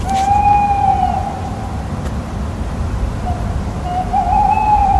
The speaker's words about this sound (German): hast du auch die Eulen gehört?